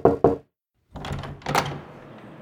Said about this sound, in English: Knock, knock. Who's there?